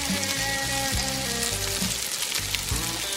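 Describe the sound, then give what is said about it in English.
Food sizzles steadily in a frying pan, a dense crackling hiss that runs throughout, layered over a short musical backing with a stepping bass line. No one speaks. “Well, it's time to put Shark Tank Steve Gadlin into the frying pan.”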